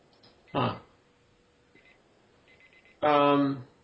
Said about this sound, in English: I hear the timer going off, and that very much concerns me, because there is much more I wanted to talk about.